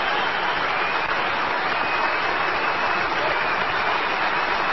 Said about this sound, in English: Listen to him clap.